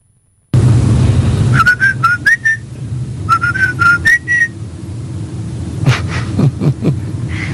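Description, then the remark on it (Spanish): The melody of the children's show clown Plim Plim whistled in two short phrases of quick, bright notes, each phrase edging slightly upward, over a steady low rumble, with a few sharp knocks afterward. “Además, no es el feliz cumpleaños, es el payaso Plim Plim.”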